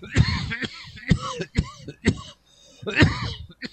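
A man coughs repeatedly in a rough, uneven fit of six or so hacking bursts, with brief pauses between them and a strained throat-clearing quality, heard alone without any talking.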